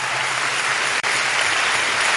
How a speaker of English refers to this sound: Oh, give the Lord a big, big, big hand. He deserves it. Only he could have done this. Let's clap a little longer. Don't be stingy when it comes to praising God.